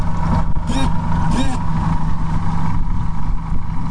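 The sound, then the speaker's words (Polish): A motorboat engine on a river roars loudly and continuously, revving hard as the boat accelerates to 70 km/h, with a dense, rumbling drone and rushing noise throughout. “Łódź pokazuje swoje umiejętności, zwinność i szybkość. W jednej chwili rozpędzamy się do 70 km na godzinę.”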